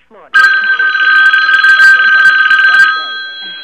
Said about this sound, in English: Okay, let me just wait for 1 second, sir. I have another call coming in.